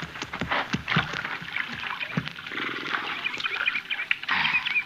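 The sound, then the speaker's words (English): Wet splashing and sloshing of water with irregular slurps and snorting as horses drink and step about at a creek, with no voices. “Yeah, we better water our horses here at the creek, Mel.”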